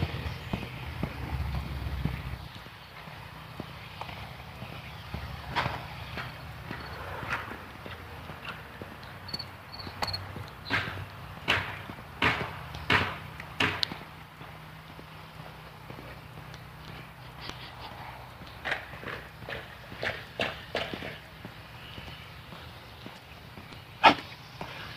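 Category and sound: human body sound, footsteps walking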